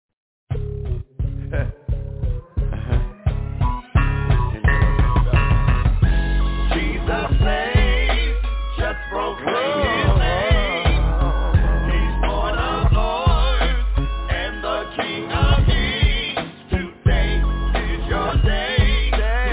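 A gospel song plays continuously with a steady beat, deep bass and layered melodic lines, sounding slightly muffled and lo-fi, like an older recording played back at moderate volume.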